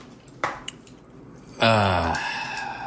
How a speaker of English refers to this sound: Oh, no. But as soon as I drain the water...